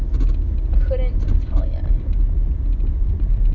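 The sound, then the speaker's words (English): Car air conditioning blows a steady rumbling whoosh inside the vehicle, making a slight noise it normally does not make, with a faint, brief whining tone creeping in near the start before the even drone carries on. “I also feel like my air conditioning is making a slight noise that it normally does not make.”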